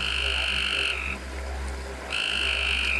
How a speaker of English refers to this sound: The frog tribe knew that these could be their home, and they went to them and began to sing.